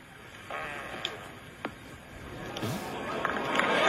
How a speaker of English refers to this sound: But they handle it in the most British way possible. They have a little bit of a snicker. But they handle it perfectly, and it's funny, and it's a fart, and we have audio of it. Here we go for the British Open.